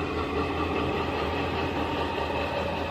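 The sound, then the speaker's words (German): An old red diesel locomotive idles on the tracks of a small rural station in Lower Saxony, Germany, in drizzling rain, its engine holding a steady low rumble with a constant droning hum and no change in pace. No voices are heard. “Und die altrote Lok davor auf den Gleisen des kleinen Landbahnhofs in Niedersachsen erinnert an die Zeiten der Bundesbahn.”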